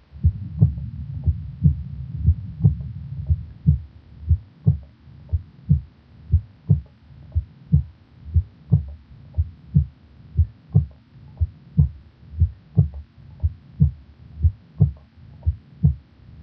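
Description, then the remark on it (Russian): Heart auscultation recording at the apex of the heart of a patient with an extensive myocardial infarction, with a steady, regular heartbeat, the first heart sound noticeably softer than the second, thumping low over a faint background hum, with no speech. “Прослушайте ослабление первого тона на верхушке сердца у больного с обширным инфарктом миокарда.”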